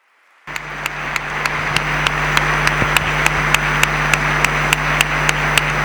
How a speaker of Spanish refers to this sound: Larga, larga ovación la que recibe el cardenal don Ricardo Blázquez Pérez a la conclusión de este pregón de la Semana Santa de este 2015.